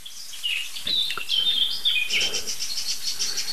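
songbird alarm calls

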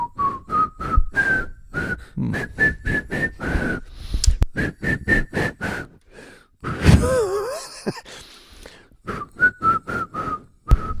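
person whistling a tune

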